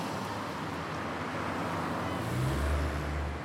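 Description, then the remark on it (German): A diesel truck rumbles past at an intersection on a busy main road, its deep low engine drone swelling louder toward the end over steady traffic noise, with no voices. “Ein LKW kam auch gerade vorbei mit Dieselgeruch.”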